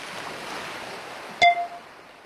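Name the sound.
sea waves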